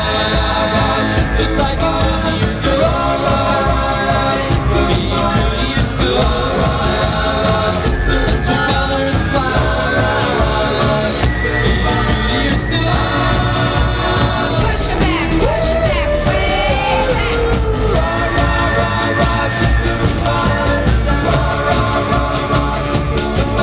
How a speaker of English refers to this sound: the song features the melody of the University of Wisconsin fight song, On Wisconsin, although it's a tribute to Hawthorne High School